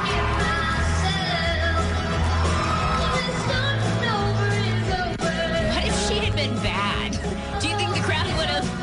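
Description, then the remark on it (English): A crowd cheers and whoops loudly and continuously as a girl sings on stage with him, with yells rising over a dense, steady roar and what sounds like music playing underneath. “The crowd loved it.”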